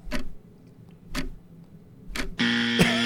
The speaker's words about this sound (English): We get a big buzzer on hard, that one. It's hard to answer fast when you got to think.